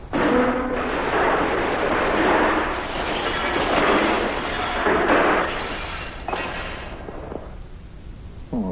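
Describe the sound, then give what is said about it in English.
A loud, sustained crash as a bowl of soup is knocked over and spilled onto a bed and the bed breaks apart, with clattering, splintering noise for several seconds before settling into fainter rattles. “You've knocked over my bowl of soup, and you've spilled it all over me and the bed, and you broke the bed to boot.”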